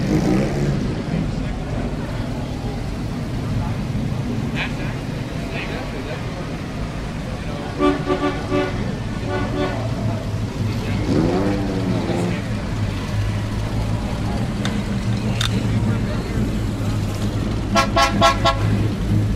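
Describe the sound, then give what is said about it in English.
Busy outdoor car show in Morro Bay, California, with several short car horn toots in quick bursts, a low engine rumble underneath, and people talking in the background. “enjoy the car show”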